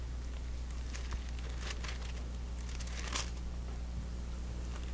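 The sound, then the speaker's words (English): Many Bible pages rustle and flip at once as an audience turns to the Gospel of John, a soft, continuous papery crinkling with scattered brighter swishes over a steady low hum, no one speaking. “Come on now, I want to hear those pages flipping.”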